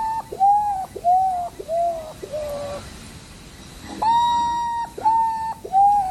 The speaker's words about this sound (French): Alors lui, on l'a vu, c'est l'ibigeau gris, et c'est un oiseau qui en plus se tient vertical